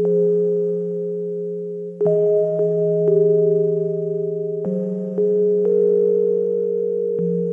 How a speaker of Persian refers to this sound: لطافت صدای تو دماغی این پیانوی رودز رو ببینید. صداهای نفس زدنی که زیر تبل‌های سهمگین این آهنگ شنیده میشن و احساس خفگی و سنگینی در آدم به وجود میارن.